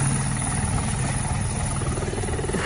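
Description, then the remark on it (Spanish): A helicopter flies overhead in Villaverde in the morning, its rotor thudding in a steady, rapid pulse over a dense, loud engine roar, with no voices. “ha estado muy cerquita de este helicóptero esta mañana en Villaverde, que un helicóptero que sonaba así, mira.”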